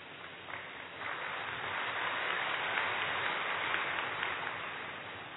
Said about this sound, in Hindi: अच्छा है, ताली आपने हमारी तरफ से बजा दी, थैंक यू।